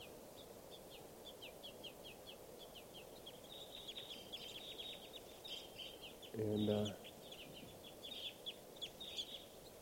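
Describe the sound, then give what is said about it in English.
Young crossbills in the trees call in a steady stream of thin, high-pitched begging chirps, rapid and overlapping, while a voice briefly speaks partway through. “And they're begging babies here.”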